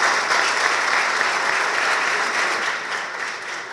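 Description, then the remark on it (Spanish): Sustained audience applause for the student centres, a dense, steady wash of many hands clapping at a fairly loud, even level that tapers slightly toward the end, with no voices over it. “Por eso los felicito a los centros de estudiantes y pido un aplauso para los centros de estudiantes.”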